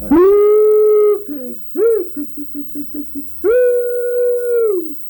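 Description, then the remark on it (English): A voice imitates a hog-calling cry, "Sioux pig", used to call pigs kept in open fields: a long, drawn-out high call, then a quick run of short, clipped syllables, and another sustained wavering call that tails off, loud and alone. “Now, I've heard people call for the pigs, you know what I mean, that, where they had them in open fields, you know.”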